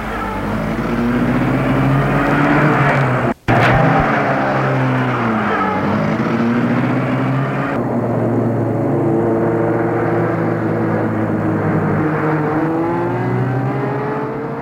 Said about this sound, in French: Ils font des courses folles à travers la ville endormie et noire. Ils roulent à vive allure.